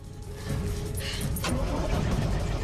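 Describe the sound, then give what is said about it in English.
A stalled truck engine is cranked at night, a steady whirring grind from the starter motor that rises in intensity and continues without catching, loud with no voices. “She tries to start the stalled truck.”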